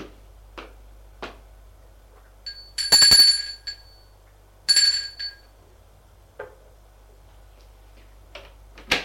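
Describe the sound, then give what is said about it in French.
A boy rings a doorbell at a front door twice, two bright, metallic tones about two seconds apart, clear, with a few soft clicks and taps around them. “va sonner à la porte.”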